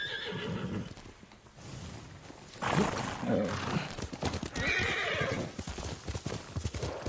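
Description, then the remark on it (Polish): Horse hooves clip-clop in a steady rhythm, broken by a couple of loud neighs and whinnies partway through. No one speaks. “Gdzie jest mój koń? Chodźże tu.”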